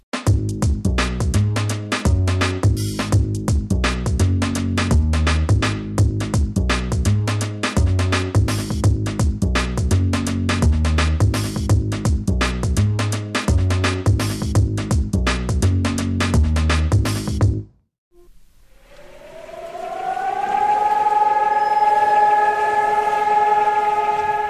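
A dense, rhythmic percussive passage cuts off abruptly, and after a brief pause a Holocaust memorial siren winds up across the city of Jerusalem, bringing it to a one-minute standstill; its steady, harmonic wail rises in pitch and holds loud to the end.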